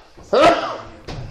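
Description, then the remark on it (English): A single sharp sneeze bursts out loudly with a brief voiced, breathy tone, followed by a short pause and then a faint murmur of a voice. “Bless you.”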